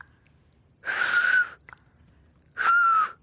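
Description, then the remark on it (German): Two breathy two-finger whistles, each about half a second long with a short gap between them, fairly loud, with a steady airy pitch and plenty of rushing breath noise. “Pfiff auf zwei Fingern.”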